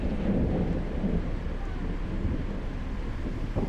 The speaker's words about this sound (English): It started with that storm over the sea.